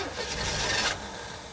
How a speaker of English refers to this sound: Having failed to start the car,